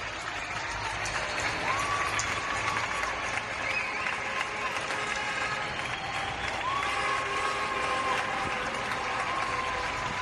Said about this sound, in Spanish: Qué lejos quedan ahora esos aplausos, ¿verdad?, que salían de las ventanas y de los balcones de nuestras terrazas, con los que dábamos las gracias a toda la gente que estaba dejándose la vida